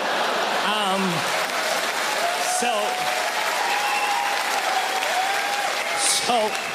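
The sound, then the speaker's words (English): An audience claps in a steady, dense patter of applause, applauding a mention of beaver tails, a fried dough snack, while a voice speaks and laughs over it. “You applauded for beaver tails.”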